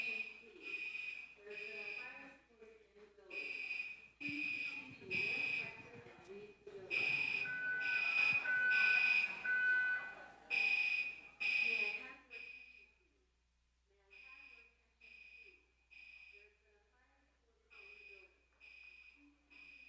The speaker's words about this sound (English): Okay, so we're fine. Someone accidentally tripped the fire alarm. And so the fire department's underway because they're the ones that need to shut the thing down and reset